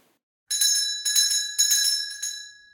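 small bell ringing

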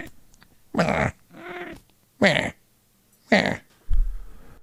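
cat vocalizing

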